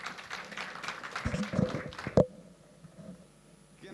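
A short burst of crowd applause, dense and steady for about two seconds, ends with a sharp final clap and gives way to near-quiet with a faint voice.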